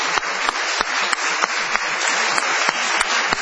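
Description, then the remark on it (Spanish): Steady audience applause for Negro Caloi and his family, a dense wash of many hands clapping with occasional sharper individual claps standing out, sustained throughout. “Vamos a aplaudir a Negro Caloi,”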